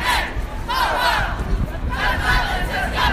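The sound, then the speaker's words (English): A crowd of students at a protest walkout held to remember the 17 people killed in the Parkland, Florida school shooting shouts and chants in loud, surging bursts, with voices rising together in repeated waves over a constant roar of crowd noise. “Here are some of the sounds and voices from around the region.”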